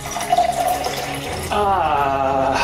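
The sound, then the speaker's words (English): Water is drained steadily out of a container, a continuous splashing stream that grows fuller and more resonant partway through, with no talking. “I'm gonna drain this one out.”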